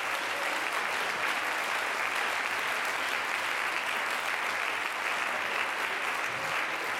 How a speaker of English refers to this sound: I want you to clap your hands for a minute and just lift up a voice.